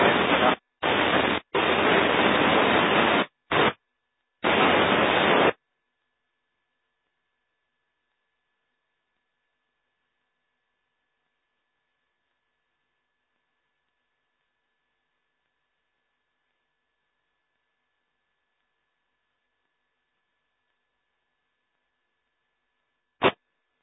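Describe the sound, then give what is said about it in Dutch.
Harsh radio static crackles in choppy bursts for about five seconds as a weak radio signal begins in the noise and fades away completely, then drops away entirely, leaving a long silence broken only by one brief click near the end. “Het begon in de ruis en het zakte helemaal weg, hè.”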